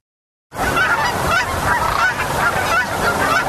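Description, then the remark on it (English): A dense chorus of Canada geese honking continuously at Creamer's Refuge in Fairbanks, Alaska, a stopover on their migration south: many overlapping calls from a large flock, loud, with no pauses and no voices present. “Creamer's Refuge in Fairbanks is a popular stopover point for Canada geese, white-fronted geese”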